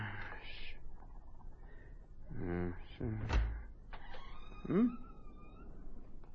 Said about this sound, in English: Busted door.